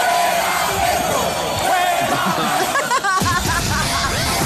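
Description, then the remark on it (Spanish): A large concert crowd shouts and yells together, a loud, dense wall of voices with rising whoops and cries that swell continuously throughout. “Y terminó gritando”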